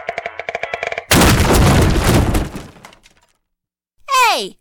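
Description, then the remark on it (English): A wooden chair gives way: a brief run of rhythmic creaking, then a loud splintering crash that rattles and fades over two seconds. After a pause, a voice cries out, sliding down in pitch. “Suddenly, her chair broke.”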